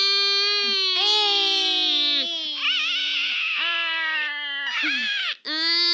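A shrill, ear-piercing scream comes out of a golden egg as it is opened, wailing on and off for several seconds, loud and strained with a wavering pitch, breaking into a few drawn-out bursts with brief catches between them.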